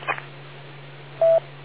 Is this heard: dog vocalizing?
no